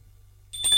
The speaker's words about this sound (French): On a sonné à la porte. Ce doit être elle.